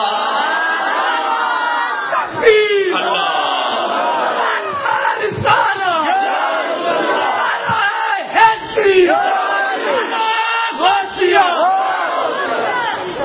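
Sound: crowd chanting religious slogans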